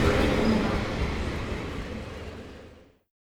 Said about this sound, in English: Oh, the train's leaving.